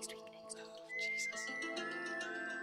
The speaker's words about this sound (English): He hasn't even got any front teeth. I think that's why he's whistling.